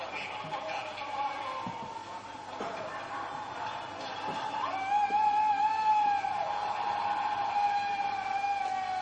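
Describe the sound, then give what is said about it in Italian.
A carabinieri armored vehicle's siren wails steadily, growing louder halfway through as it speeds past, over a continuous wash of street noise and indistinct background voices. “E la presenza dei mezzi di carabinieri, qua abbiamo visto sfrecciare un blindato, è legata ai momenti iniziali di questa vicenda.”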